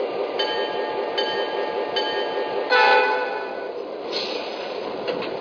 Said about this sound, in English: Train number 2, Southern Crescent.